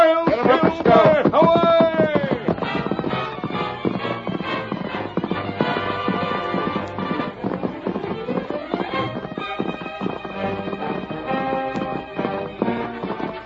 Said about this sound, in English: Masked Man and his faithful Indian companion urged their horses to their greatest speed, but swiftly as the two men rode, the fire had almost completed its work when they drew near the ranch house.